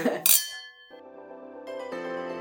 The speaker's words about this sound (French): Ah, bon, bah, écoute, on peut trinquer, alors. On trinque ? Ouais, tu trinques à vide.